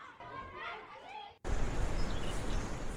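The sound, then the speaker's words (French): Birds chirp and trill in a forest for a moment, then a steady rushing of flowing stream water takes over, loud, with faint bird calls still peeping above it. “Le chant des oiseaux, le bruit des cours d'eau.”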